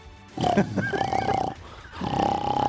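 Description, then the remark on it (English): A human voice doing an impersonation of cartoon character Porky Pig makes rough, snorting grunts like snoring in two bursts with a short pause between, fairly loud. “That's snoring.”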